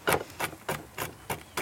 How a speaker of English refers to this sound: I'm just crushing these pistachios. And I think we can be quite generous with them as well.